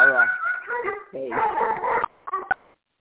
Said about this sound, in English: Someone's dog is excited.